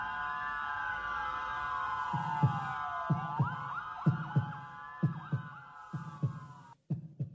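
A steady heartbeat thumps in low double pulses, lub-dub, repeating at a regular pace beneath a sustained wavering tone that rises and falls like a distant siren, ending with a brief silence.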